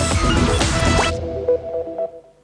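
Water from a leak drips into a pooled surface in a quick, wet burst at first, then settles into a few separate plinking drops, clear with no one talking.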